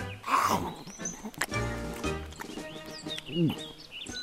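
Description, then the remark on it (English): A lion roars loudly, a rough, rumbling growl that swells in a couple of bursts before trailing off, with a few higher squeaky cries mixed in near the end. “Ouch! Roar! Roars Lion.”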